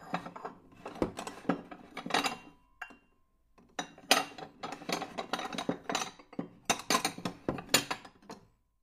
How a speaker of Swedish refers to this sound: Det hörs klirr från farmors kök. Hon stökar på där inne.